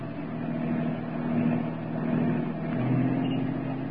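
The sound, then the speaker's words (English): A car engine drones steadily, its low hum swelling and shifting pitch as the vehicle speeds up, following a cab through heavy traffic, with no voices over it. “Not too close, driver. Stay as far behind as you can.”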